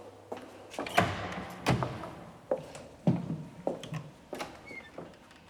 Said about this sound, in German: Tür auf.